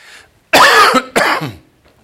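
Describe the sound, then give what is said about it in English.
Two harsh, loud coughs in quick succession, the first longer and rougher than the second, with a faint breathy sound before them. “I got over whatever, and now it's like I'm coughing.”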